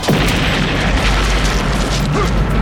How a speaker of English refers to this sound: The darkness was ripped apart by the sudden hellish flare of the blast. The roar pounded Frank's ears like giant fists, lifting him and throwing him forward.